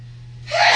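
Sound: sneeze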